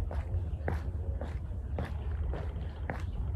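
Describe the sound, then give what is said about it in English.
Steady footsteps crunch along outdoors at an even walking pace, about five or six distinct steps, over a constant low rumble of wind. No one speaks. “Birds, wind, footsteps.”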